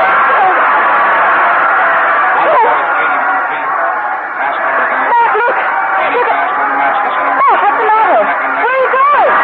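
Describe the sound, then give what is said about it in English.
A dense, loud crowd of spectators in the stand at a horse race roars and chatters continuously as the horses pound down the back stretch, with sharp rising shouts and whoops bursting out above the babble. “push your way through the excited crowd and rush from the stand.”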